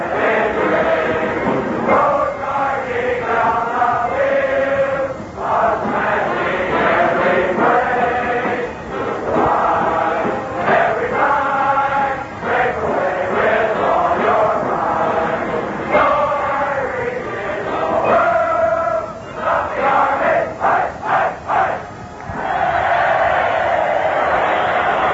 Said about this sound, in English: Time has been called with a minute and a half remaining in the first half of the football game. The Cadets start to sing, the band starts to play, and we start to listen.